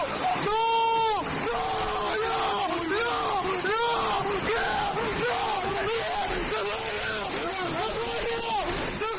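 A son screams desperately and repeatedly for help at his home in Covisa, Toledo, Spain, during intense rains; a series of strained, wailing vocal cries over a constant noisy background, fairly loud.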